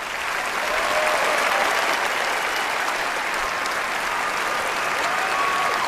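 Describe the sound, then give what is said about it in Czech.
Steady applause from many hands, a dense crackling wash of clapping that holds at an even level for about six seconds, with no voices over it. “Tleskánky”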